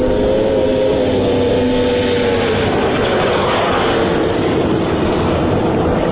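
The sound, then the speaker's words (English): A snowmobile with a studded track roars loudly on Gull Lake, north of Brainerd, taxiing out onto the lake, then roaring back toward a stretch of glare ice and locking the brakes at high speed. Its droning pitch is audible at first before dissolving into a rough, continuous rush of motor noise with no voices. “This morning, he's doing research, taxiing out onto the lake, then roaring back toward a stretch of glare ice and locking the brakes at high speed.”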